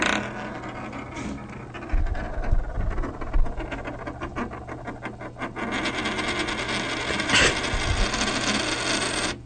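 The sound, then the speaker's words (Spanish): A small coin is flipped and lands eagle side up, producing a series of small clattering taps and rattles followed by a sharper metallic clink, with no voices present. “Bueno, aquí está la monedita.”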